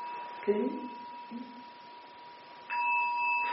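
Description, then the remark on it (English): A bell struck with a striker hums with a steady ringing tone, then is struck again near the end, swelling louder as the sustained tone rings on. Faint voices murmur briefly early on. “I actually, truly, when I'm ringing that one, 3 or 4 times.”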